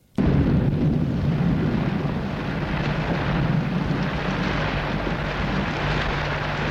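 nature, thunder rumbling

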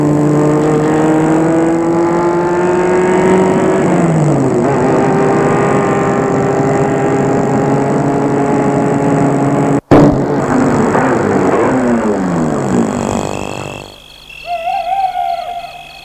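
vehicle, car engine driving

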